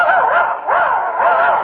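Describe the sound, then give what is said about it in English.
A person imitates a dog, letting out three loud, drawn-out bark-like yelps in quick succession with no other sounds. “Now he thinks he's a dog.”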